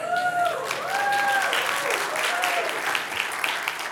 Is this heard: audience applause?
yes